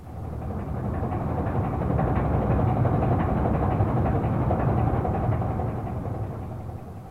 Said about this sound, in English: It's the bus. Stand back, please. The bus is coming.